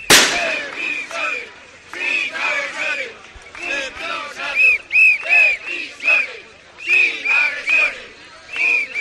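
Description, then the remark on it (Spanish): A crowd of protesting prison officers chants and shouts together in rhythmic bursts, loud overlapping voices rising and falling in repeated slogans that prison officers do not want assaults, with a few sharp cracks or pops at the start, at the Plaza de la Inmaculada in front of the Government sub-delegation. “Dicen que los funcionarios de prisiones no quieren agresiones, decían en esos gritos.”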